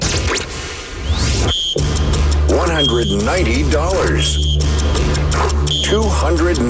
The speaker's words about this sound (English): let's beat the buzzer.